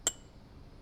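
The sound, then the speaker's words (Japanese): A single bright clink of cups brimming with shaved ice tapped together in a toast, sharp, with a brief high ring fading out over a quiet background. “乾杯。”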